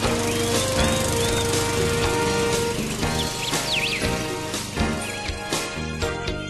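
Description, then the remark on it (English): A lawnmower engine drones steadily and loudly throughout, a constant rough motor hum, while birds chirp and tweet intermittently above it. “Jeez, I like the sound effects of the lawnmower in the background there.”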